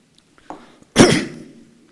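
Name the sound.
coughing and throat clearing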